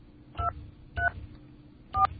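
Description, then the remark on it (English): Three short touch-tone keypad beeps from a telephone being dialed with its volume turned down, spaced unevenly about half a second to a second apart, fairly soft over a low background hum, with no talking. “Being very careful to turn down the phone so you don't hear the touch tones that I'm dialing.”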